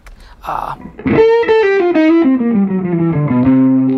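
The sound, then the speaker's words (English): A guitar through a distortion pedal plays a loud, sustained lead line, its gritty notes sliding gradually downward after a brief noisy burst at the start, with no talking. “But technically, anything that's an alteration to the signal is a distortion. Sure. So these are distortions, but they're not.”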